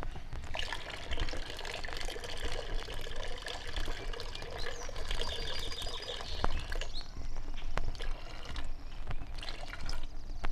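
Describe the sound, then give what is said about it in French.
Water poured from a water-filled moose-calling horn during moose hunting, a steady splashing stream lasting about ten seconds to imitate a cow moose urinating at the edge of a lake, with no talking over it. “À partir de ce moment, il est préférable, à l'aide du cornet rempli d'eau, d'imiter la femelle qui urine en bordure du lac.”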